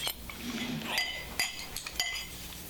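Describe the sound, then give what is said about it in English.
A small bell from a bell collection rings a few times in quick, irregular strikes, each a bright metallic ting with a short, high-pitched ringing tail. Fairly faint, with no voices. “You see, these have different tongues. Oh, yes. And that's what makes a different sound.”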